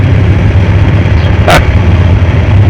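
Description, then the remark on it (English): A truck engine working on gravel rumbles steadily and loudly throughout, a low continuous drone with one brief sharp crack or crunch partway through. No one speaks. “That truck doing on the other side of the gravel.”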